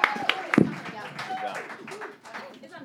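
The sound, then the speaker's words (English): Audience applause for the guests on the show Broadwasted, a dense crackle of sharp claps that is strongest at the start and then thins out, with voices talking and calling over it throughout. “Everyone give a huge round of applause to these magical people.”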